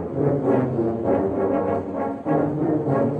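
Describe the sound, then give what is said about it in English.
About 200 tuba players at the yearly Tuba Christmas event at Underground Atlanta play a loud, continuous passage of deep, rich brass notes, shifting pitch every second or so with a brief dip before the final held tones. No one speaks. “However, the sounds of tuba?”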